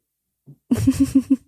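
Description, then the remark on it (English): A dog breathes in quick, rhythmic puffs, about five short panting breaths in a row after a brief soft snuffle, with no voices. “It's my dog.”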